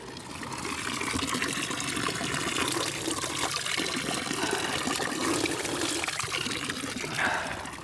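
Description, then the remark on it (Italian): Steady running water splashes continuously from a fountain in Geneva, a dense, even rush and patter that holds at a constant level throughout with no voices. “In ogni caso, arriva la fontana, unico testimone che è rimasto di questo villaggio negro.”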